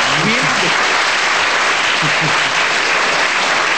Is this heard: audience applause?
yes